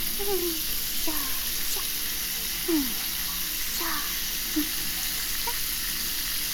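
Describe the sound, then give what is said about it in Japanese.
Steady, hissing spray of running water pours continuously, a shower rinsing soap suds off a person, with faint splashes and drips scattered through the wash of sound. “一度シャワーで流しちゃいますね。”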